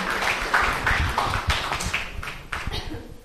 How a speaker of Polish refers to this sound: Prosimy o brawa naszego artysty.